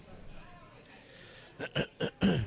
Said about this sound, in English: Let me clear my throat.